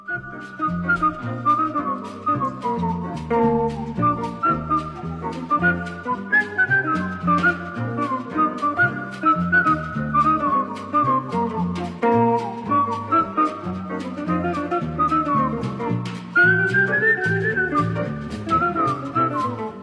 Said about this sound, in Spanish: Y van haciendo armonía, ¿eh? El silbido, sí, y la guitarra, van haciendo una perfecta armonía.